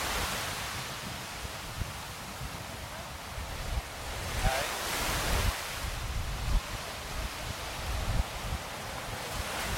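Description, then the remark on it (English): Heavy surf roars continuously at a slight inlet, waves breaking and washing onto the shore in overlapping surges and starting to touch the wall, with gusty wind buffeting the microphone and no voices. “The sea's getting quite loud and raucous.”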